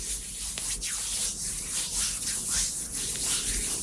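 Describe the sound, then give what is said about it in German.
Hands rub against a microphone, making a steady, loud, scratchy friction noise with rough swishing strokes that rise and fall throughout. No one speaks. “Sag mal, hast du kalte Hände?”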